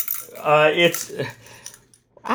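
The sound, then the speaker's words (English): Bear bells jingle in a quick metallic burst of bright, ringing tones that fade, followed by a few softer, scattered tinkles and a final brief jangle. “it's bear bells. Okay. Can you hear that?”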